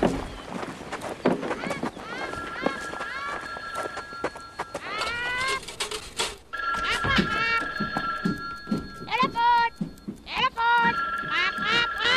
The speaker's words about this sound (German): Da, das Telefon. Die rote Lampe an der Werkbank blinkt.